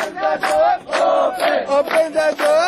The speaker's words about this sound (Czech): Kao i dan ranije, uzvikuju "Otvorite kapiju!"